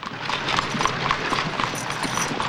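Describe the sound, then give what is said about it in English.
Horse hooves clip-clop steadily as an Amish horse-drawn buggy is pulled along, a brisk trotting rhythm of sharp clacks over a constant rolling rumble, moderately loud with no talking. “Horses pulling similar buggies trot to and fro.”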